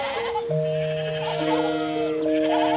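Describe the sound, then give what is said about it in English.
A huddle of sheep at feeding time bleat, their wavering, nasal calls overlapping and starting one after another in a steady, loud chorus with no pause. “I'll make myself as tiny as I can, and I'll pretend I'm a sheep. Bah!”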